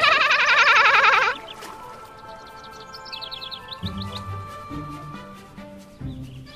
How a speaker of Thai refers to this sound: สวัสดีจ้าเจ้านกน้อย เสียงเจ้าเนี่ยปลุกข้าได้ทุกเช้าเลยนะเนี่ยเสียงดีจริงๆ เช้าวันไหนไม่ได้ยินเสียงเจ้าเช้านั้นน่ะคงเงียบสงบเลยนะ